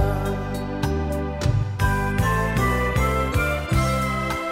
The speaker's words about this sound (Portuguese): Os sinos repicam, avisando a meio-dia.